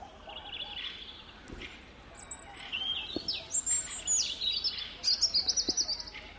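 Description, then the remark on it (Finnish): Outdoor birdsong of high chirps and whistles, with a fieldfare's harsh, rapid chattering rattling in the background, most noticeable as a quick run of pulses near the end. “Joo, kyllä siellä taustalla räkätti rastas omaa starttimoottoria vetelee, mutta yhtä kaikkea.”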